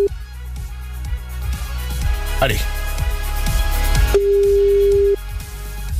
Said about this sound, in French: Attention, le téléphone va sonner. C'est peut-être chez vous que ça se passe maintenant,